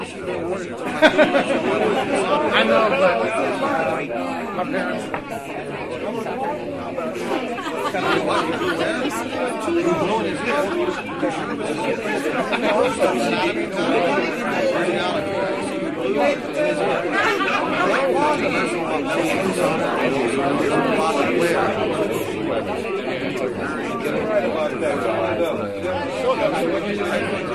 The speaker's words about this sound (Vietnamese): Ngôi nhà như muốn nứt ra vì đám đông, tiếng chuyện trò đứt đoạn, tiếng cười rầm rĩ hoặc khúc khích, tiếng ríu rít của phụ nữ và những tiếng chào hỏi oang oang.